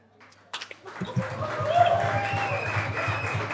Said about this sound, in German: Den Applaus für meinen Kollegen